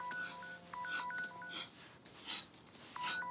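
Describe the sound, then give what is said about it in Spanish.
A telephone's electronic tone sounds in short, repeated beeps, moderately loud, from a phone lying in the sand among rocks, over a steady rough scraping and rustling as an injured person drags himself through the sand toward it. No one speaks. “Abre los ojos y al momento se arrastra siguiendo el tono del teléfono.”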